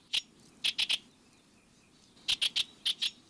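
bird, bewick's wren song

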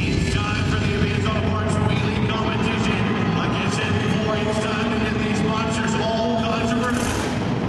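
vehicle, monster truck engines revving

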